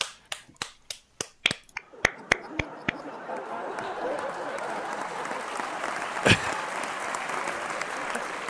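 A handful of separate claps come faster and faster, then merge into steady, loud crowd applause that carries on to the end, with one sharp louder clap partway through.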